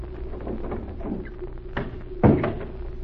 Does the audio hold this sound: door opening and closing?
yes